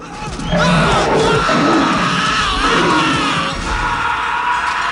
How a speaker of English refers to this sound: In the main jungle room, Sorensen hears the screams.